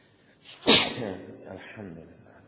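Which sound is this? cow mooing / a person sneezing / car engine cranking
a person sneezing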